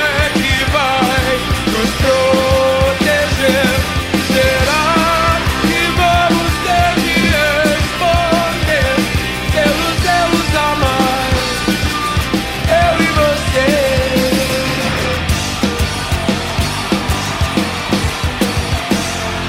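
A Brazilian rock song, a live recording from a 1995 concert on Ilha Porchat in Santos, plays loudly and steadily, with driving drum hits, dense electric guitars and a sung melody carried over a full band throughout.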